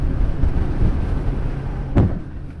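A lifeboat powered by two 115-horsepower four-stroke engines speeds along with a steady, deep engine drone and rushing wind buffeting the microphone, and a sharp splash-like thump cuts through near the end.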